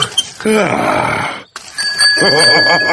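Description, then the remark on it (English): The bell on Peppa Pig's little bicycle, ridden by Daddy Pig, rings out with a bright, sustained metallic tone in the second half, held steadily while voices chatter and exclaim around it; an earlier stretch is mostly voices. “And this is the bell.”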